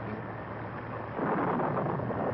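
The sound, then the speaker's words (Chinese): A dense, steady roar of a storm on a churning sea at night, like heavy rain and wind, swelling louder partway through with a low rumble beneath. No voices. “一小时又一小时，他们在暴风雨里挣扎着。”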